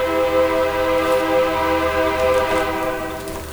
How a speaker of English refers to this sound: And the train goes by, because that's what we do here.